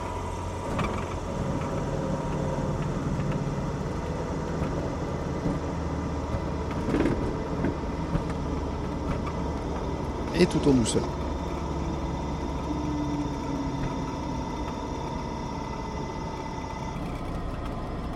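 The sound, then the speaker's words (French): A quiet, almost silent aircraft engine drones steadily throughout with a faint high whine as the plane makes its final approach to a runway to land, while a person speaks briefly over it; a couple of soft clunks sound near the middle. “Et on entend que le moteur...”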